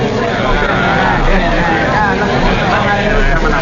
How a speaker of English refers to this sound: Come on, don't be afraid of the crowd. The roar's worse than the bite.